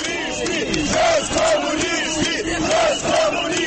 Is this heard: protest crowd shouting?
yes